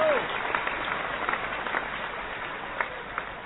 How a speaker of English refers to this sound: Well, instead of clapping, I'd rather people throw money.